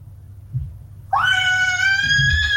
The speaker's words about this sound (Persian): شما حتما در خانه هستین و از خانه با ما صحبت میکنین و صدای کودکا را هم ما میشنویم.